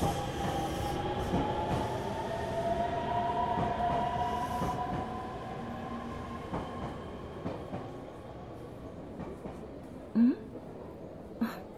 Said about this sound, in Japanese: しかしほんま、この時間の電車は混み混みやな。ぎゅうぎゅうのすすめでかなわんわ。